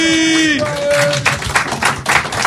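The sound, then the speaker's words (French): At an improvisation show, a brief held musical tone gives way to audience applause for the performers, a dense, steady crackle of many hands clapping at fairly even loudness until the end. “on applaudit.”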